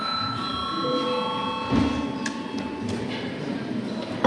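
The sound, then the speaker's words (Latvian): A steady, sustained electronic bell tone rings with bright layered pitches in the Latvian Saeima (parliament) during an extraordinary session, called for before registration, holding evenly for several seconds over a low murmur of voices and shuffling. “Lūdzu zvanu.”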